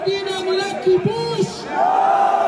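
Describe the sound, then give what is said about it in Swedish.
A large crowd at the Western Wall in Jerusalem shouts back "Yes" in unison in reply to a speech declaring "We are taking over Gaza", a loud sustained roar of many voices rising together, with a swelling cheer toward the end. “Vi tar över Gaza, fortsätter Smotrich. Ja, skriker talkören.”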